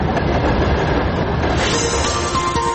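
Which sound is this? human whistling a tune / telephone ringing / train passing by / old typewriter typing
train passing by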